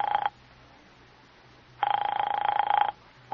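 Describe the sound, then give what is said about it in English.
A telephone rings in steady, buzzy bursts, each about a second long, separated by long silent pauses, as if heard down the line while waiting for someone to pick up. No voices. “Doesn't he answer?”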